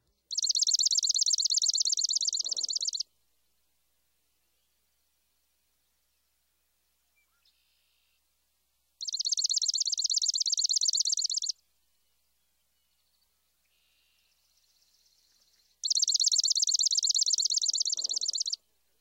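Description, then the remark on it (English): A swamp sparrow sings a rapid, reedy trill of fast chips, repeated three times with pauses of several seconds between each bright, loud burst. “Some swamp sparrows give a more rapid series of chips, which creates a reedy-sounding trill.”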